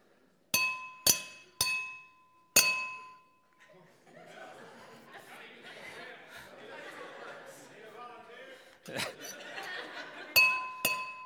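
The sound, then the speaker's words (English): Sharp, ringing clinks as something hard strikes a thick, strong glass pane several times, each hit leaving a bright tonal ring; a stretch of background chatter and chuckling follows before a few more strikes close it out. “I don't want to throw glass all over the place.”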